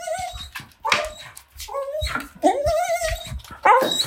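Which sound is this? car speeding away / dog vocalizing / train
dog vocalizing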